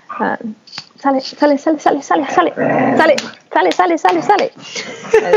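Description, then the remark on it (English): Dogs fight under a hammock: a loud tangle of snarls, yelps and sharp barks in quick bursts, with a sustained rumbling growl in the middle of the fight. “Dog fight under my hammock.”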